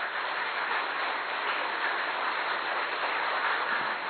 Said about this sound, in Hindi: हाँ, ऐसे तो सब लोग बहुत ताली बजाते हैं जी।